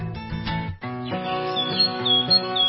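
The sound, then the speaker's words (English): Birds chirping in spring in quick, bright tweets that repeat over a steady, full tonal background, moderately loud, with no voices. “It looks like spring, the time of year for dust, pollen, busy birds, and bugs.”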